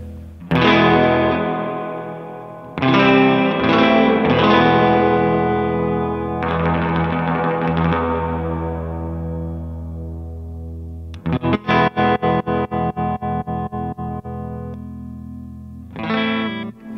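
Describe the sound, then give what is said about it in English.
Loud electric guitar chords played through a clean amp with its reverb cranked to 10 ring out alone, each strum washing into a long, heavy reverb tail, followed by a rapid choppy strummed passage and a final chord. “This is dry, just so you can get a feel for what the reverb does to it.”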